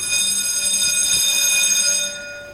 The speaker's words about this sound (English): We paid Kate $5 to ring the alarm in the elevator